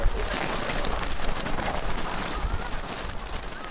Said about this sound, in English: The sound is a downpour, as though the 200 snowshoes could beat the snow back into rain.